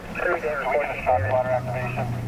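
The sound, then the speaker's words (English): A tinny, band-limited voice announces a ShotSpotter gunshot alert over a police radio in a squad car at night in San Francisco. The voice has a slightly crackly, compressed quality, and a low engine hum rises underneath partway through. “It didn't take long for the first ShotSpotter alert to come crackling over the radio.”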